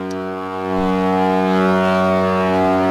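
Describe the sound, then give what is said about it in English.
A deep, loud foghorn blast sounds continuously, a steady rich drone with strong harmonics that holds and swells slightly over three seconds with no break, followed by seagull cries. “That was an appropriate amount of foghorn, I feel like. I like the seagulls at the end.”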